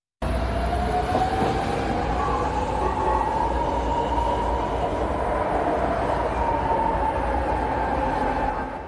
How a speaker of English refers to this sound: A piece of Bay Area history is officially being retired today as BART's legacy fleet of trains in commission since 1972 will soon be out of commission for good.